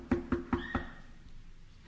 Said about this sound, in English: He's saying, "Behold, I stand at the door. I'm knocking. If anyone hears my voice," so he's not just knocking.